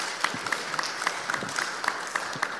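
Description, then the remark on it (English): A small church audience applauds steadily for a man invited to the stage, many hands clapping in a dense, continuous patter with a few sharper individual claps standing out, moderately loud, with no talking over it. “You guys can give him a round of applause.”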